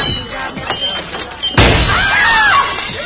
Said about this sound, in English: Lem shows up at Bird's and slams a glass pane door to her shop.